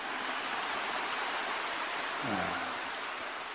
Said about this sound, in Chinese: 现在鼓掌的声音响也是装的